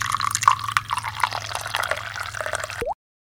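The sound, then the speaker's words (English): Hot tea is poured onto a dormouse's nose in a steady trickle for about three seconds, with faint drips and gurgles, then cuts off abruptly. No voices. “The Dormouse is asleep again, said the Hatter, and he poured a little hot tea upon its nose.”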